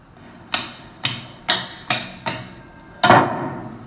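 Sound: door slammed shut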